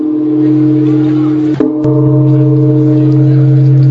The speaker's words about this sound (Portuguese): Após as badaladas do sino, haverá uma missa.